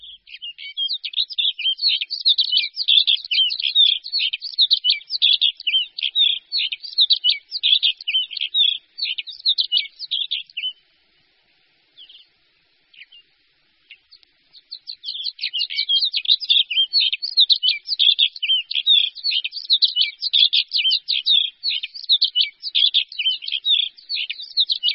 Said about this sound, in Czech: Naše pohraniční hory jsou domovem několika vzácných ptačích druhů. V alpinském pásmu skal a horských louček nad hranicí lesa v Krkonoších od nepaměti přežívá malá populace pěvušky podhorní, čítající sotva 15-20 párů.